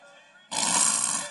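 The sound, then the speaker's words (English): A voice imitates a loud snore: a soft, hummed breath gives way halfway through to a harsh, rattling, throaty snort that holds steady until the end. “You may be spiritual, but you'll be snoring.”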